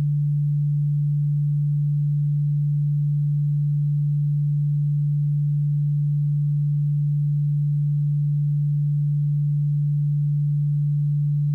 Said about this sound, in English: Now, in your left ear, I am going to play a frequency of 146 Hz.